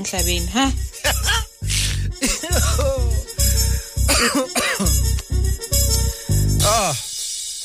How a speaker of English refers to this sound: I think my lungs are complaining about the morning run we had. I had a beautiful run this morning, thank you. But anyway, that's why I keep coughing. Sorry about that.